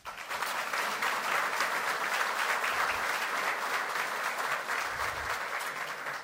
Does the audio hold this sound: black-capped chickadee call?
no